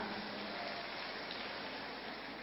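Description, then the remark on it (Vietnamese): A crowd applauds an audience member invited on stage to receive a prize from the organizers, in a steady, dense patter of many hands clapping at once, holding an even loudness throughout with no voices on top. “Một tràng pháo tay cho bạn đi ạ.”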